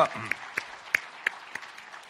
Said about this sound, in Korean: 우리 박수로 환영하시겠습니다. 감사합니다.